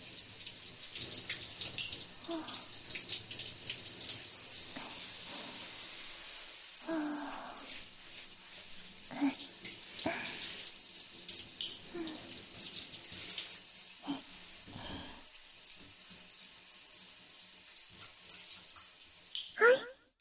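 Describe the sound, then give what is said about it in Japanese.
Water runs steadily from a tap or shower, a continuous hiss of spray splashing over skin as soap suds are rinsed off the back, arms and hands, with brief shifts as the stream moves and a short louder splash near the end. “背中の方から流して、腕と手の先の方まで泡が残らないようにしっかり流していきますよ。”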